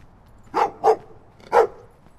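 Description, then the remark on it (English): Three sharp barks from guard dogs at a house in West Oakland, two in quick succession then a third after a short pause, loud over a quiet background. “Got some guard dogs.”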